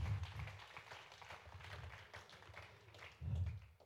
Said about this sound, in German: Ganz herzlichen Dank. Lasst uns einen Applaus geben für den Herrn und für sein Wort.